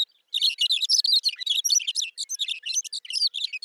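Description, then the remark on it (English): A thick-billed longspur (McCown's longspur) sings a long, continuous burbling song of rapid tumbling chirps and warbles, clear, with no other sounds around it, in the short grass prairie of the high plains of eastern Montana in summer. “The bird's long, burbling song helps create the summer soundscape of the high plains.”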